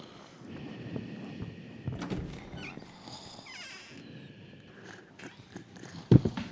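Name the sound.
footsteps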